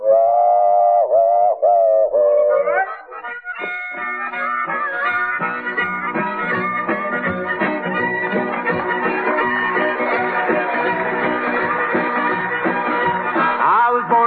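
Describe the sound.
A loud, wailing tone with sliding pitch bends imitates a freight train whistle for a couple of seconds, then a full band launches into a steady, busy tune.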